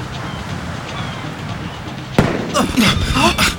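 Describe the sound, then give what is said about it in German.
Fireworks go off with one sharp, loud bang over a steady low rumble, followed by a quick run of crackling bursts and brief hissing streaks. “Nox erst in Feuerwerk steigen?”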